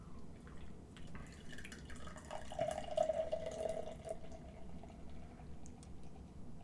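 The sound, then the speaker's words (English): A quiet, steady trickle of Ouda Pils beer pouring into a cup, with a soft fizzing, gurgling texture that swells slightly midway before easing off. No one speaks. “I'm going to use my cup.”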